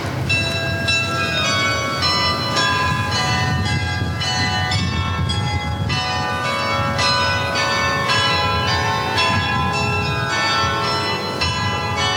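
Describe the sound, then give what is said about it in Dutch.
The carillon bells of the city hall of Leeuwarden (Ljouwert) ring out in a continuous cascade of overlapping metallic tones, bright and resonant, struck in a steady succession at a loud level over a low, constant rumble, with no voices. “Was juist dat ben de klokken van het carillon van het stedhuis van Ljouwt.”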